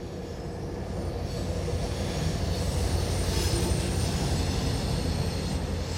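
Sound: northbound passenger train passing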